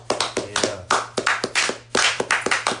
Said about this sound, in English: I went up there to celebrate some graduations. Got a friend that became a lawyer. And I got another friend that's going off to dental school. So let's clap it up one time.